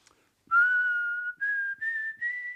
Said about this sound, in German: Sag mal, wie machst du das eigentlich? Das klingt sehr schön. Wie ich pfeif? Ja. Na, das ist doch ganz einfach. Wie? Einen Mund spitz machen und durchblasen. So.